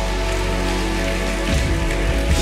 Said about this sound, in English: Jesus. Come on, let's give Jesus a round of applause this morning.